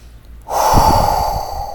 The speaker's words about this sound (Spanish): Vamos a hacer otra respiración profunda para ir cerrando.